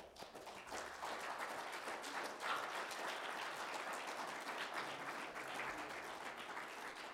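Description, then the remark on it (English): A crowd applauds steadily for standing volunteers who showed up just about every week to help with Club Rock, many hands clapping in a dense, even wash of sound that holds at a constant loudness for several seconds, with no voices standing out. “So go ahead and stand up and we'll give them a round of applause.”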